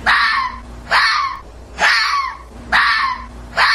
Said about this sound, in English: The soothing sounds of foxes mating reassures all that fox numbers are on their way back up. Those relaxing moans mean that we can sleep easy.